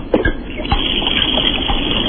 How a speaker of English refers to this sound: Sounds like it's some sort of water. Water. Is it the washing machine? No, that was the washing machine. I went all the way to the basement.